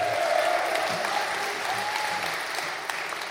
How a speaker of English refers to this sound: Y'all can clap for that.